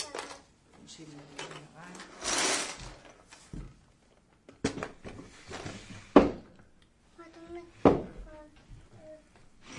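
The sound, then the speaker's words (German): A drawer slides with a rough scraping rumble and then knocks shut, with several short wooden thumps and rattles as toy building blocks are put away, while an adult and a small child talk in between. “Wollen wir die Bausteine wieder einsortieren und die Schublade wieder da reinschieben?”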